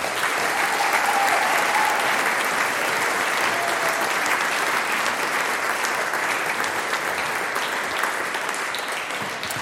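Sustained audience applause for a performer at the close of a live event, a dense wash of many hands clapping steadily at a loud, even level for nearly ten seconds, tapering only slightly toward the end, with no speech over it.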